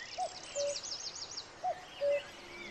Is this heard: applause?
no